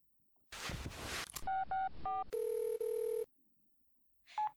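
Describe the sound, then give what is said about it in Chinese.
A brief rustling burst, then three quick telephone keypad beeps as someone dials a phone call, followed by a long steady phone tone, ending with one more short beep. Clear, with no voices. “好啊，那我这就打电话。”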